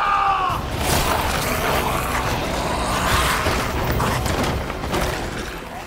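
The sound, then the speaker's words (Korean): A chaotic crowd scene from the series Kingdom: people fleeing zombies, with overlapping screams and shrieks over a dense, rumbling wall of noise and commotion, loud and sustained throughout, with a rising wail at the very start. “와, 이 좀비들, 또 그 좀비 피해서 도망가는 사람들 비명소리가 너무 생생해요.”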